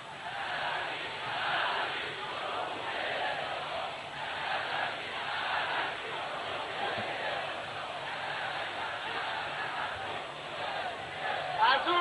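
crowd chanting slogans

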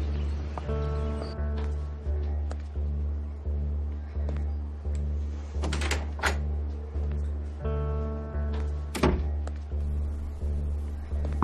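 door being shut

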